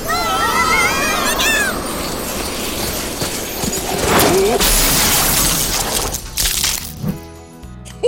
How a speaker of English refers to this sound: Is everyone all right? Yes, Santa, but the sleigh is smashed.